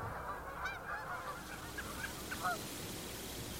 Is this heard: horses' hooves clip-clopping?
no